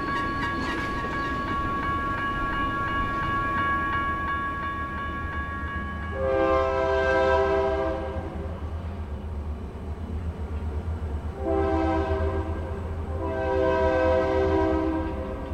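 A train rumbles past with a steady low roar and metallic ringing, while its horn sounds in three long, loud blasts, the last two close together near the end.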